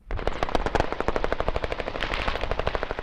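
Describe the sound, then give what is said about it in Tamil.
Sustained machine gun fire in the battle for Mosul, Iraq, between Iraqi forces and Islamic State militants: a rapid, steady stream of sharp cracks lasting several seconds, loud, with a dense crackle behind the bursts and no voices. “ஏவுகணை, மோட்டார், துப்பாக்கி மற்றும் இயந்திர துப்பாக்கிகளை பயன்படுத்தி இஸ்லாமிய அரசு தீவிரவாதிகள் கடும் எதிர்ப்பை காட்டி வருவதாக போரிடுகின்ற ஆயுதம் தாங்கிய வாகனத்தில் பயணித்துச் செல்லும் பிபிசி செய்தியாளர் ஒருவர் தெரிவிக்கிறார்.”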